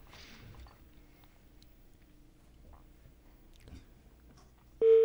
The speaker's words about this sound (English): Ah, it's ringing. That's an interesting ring.